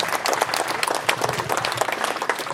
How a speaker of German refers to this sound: Aber insgesamt 549 Einsendungen, glaube ich, das ist auch nochmal ein Applaus wert für alle Teilnehmenden, dass ihr euch da so ins Zeug legt.